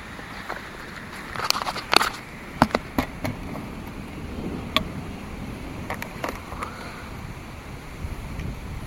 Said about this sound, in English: Oh gosh, it's a little darker out now. So, it should be like a... more, hopefully. It's starting to rain already.